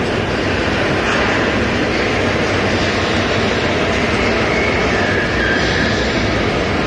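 A Toronto subway train rumbles along at a steady, loud roar, with dense low-end clatter and a constant high hiss of wheels on track, no voices present.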